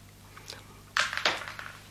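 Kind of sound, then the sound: food or drink, chewing candy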